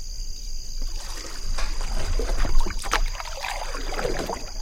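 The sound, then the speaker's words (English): A small boat moves through the shallow water of a stream running through an island in a river, with steady splashing and rushing of water around the hull, a constant low rumble underneath and a high steady whine above, no voices. “We steer into a stream running through an island in the river and find a snake digesting its lunch.”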